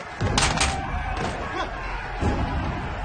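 A guard, kicked in the chest, crashes into prison cell bars across a corridor with a loud, ringing clatter, followed by a second dull thud a couple of seconds later over a low background rumble.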